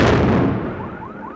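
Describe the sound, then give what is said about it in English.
A loud detonation of cluster bombs, blown up by military bomb experts in a neighborhood after a war, booms and rumbles away over about a second, followed by a faint rising, wailing tone like a car alarm. No one speaks. “So they're having to blow up the cluster bombs instead.”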